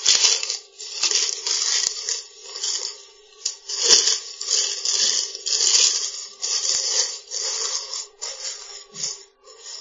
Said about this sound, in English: Then press the cartouche, so the paper, press it down straight on top of the surface of the vegetables. It must be touching the vegetables. And just roll the outside edges in.